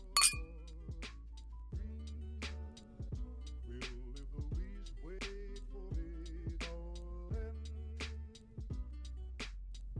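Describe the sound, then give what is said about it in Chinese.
Glasses of alcohol clink together sharply in a toast at the start, followed by a series of lighter, ringing taps spread across a steady low background hum, moderately loud. “来，干杯。”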